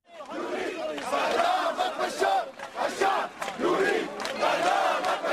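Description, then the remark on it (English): A large crowd in the city of Homs chants slogans in unison, including "The people want to execute you, Bashar," many voices shouting together in rhythmic bursts with brief pauses, loud and sustained, like a street protest. “A team of about 60 observers arrived in the city of Homs yesterday, where crowds chanted, "The people want to execute you, Bashar," from unverified YouTube video.”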